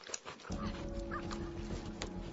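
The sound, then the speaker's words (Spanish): Coyotes whimper and yip in short, high whines over the carcasses of park animals that died during the winter, layered over a steady low rumble of background noise. “Los coyotes a menudo aprovechan esta triste oportunidad.”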